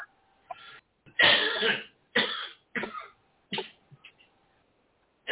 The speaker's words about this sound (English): Chronic cough. That's just weed, man.